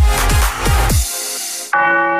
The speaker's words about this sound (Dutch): Hoor je dat? De klok zegt dat het tijd is voor de borrel.